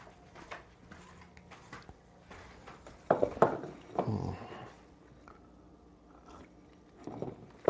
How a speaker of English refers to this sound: Sip of coffee.